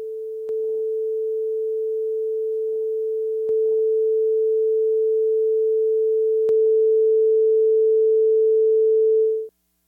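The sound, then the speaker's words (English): A steady, pure, higher-frequency electronic test tone with phase distortion holds for about ten seconds, interrupted by a few faint clicks where the tone shifts slightly and steps up in loudness, then stops abruptly. “Phase distortion in higher frequencies is a little bit more locatable.”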